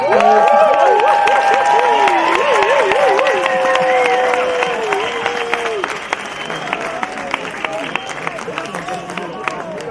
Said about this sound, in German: Also nochmal ein großer Applaus an die Pinken.